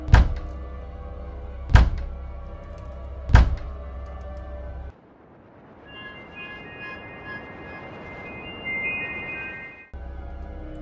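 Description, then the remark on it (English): Three heavy, booming bangs on a door made by large, powerful hands, evenly spaced, followed by a steady low rumble with a faint high whine. No one speaks. “Large, powerful hands banged on my door.”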